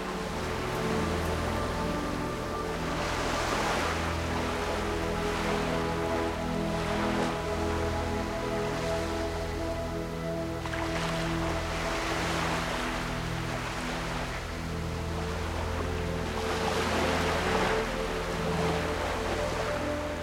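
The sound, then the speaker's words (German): Water sloshes and splashes alongside a moving ship at sea, with a steady low engine drone underneath and louder rushing surges every few seconds; no one speaks. “Auf der anderen Seite des Schiffes hörst du, dass etwas Wasser aufspritzt.”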